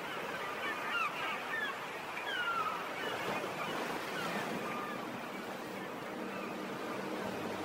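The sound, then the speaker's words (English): Sea waves wash steadily onto the shore in a continuous, rushing surge, with scattered honking bird calls rising above the surf throughout. “And hang on, the sea is still around.”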